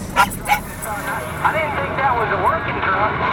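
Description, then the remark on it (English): A 12-year-old miniature schnauzer named Winston lets out a few sharp barks, followed by higher whining yelps, all over a steady low rumble like engine noise, while riding in a truck on the way to California. “She's got her loyal traveling companion with her now, a 12-year-old miniature schnauzer named Winston.”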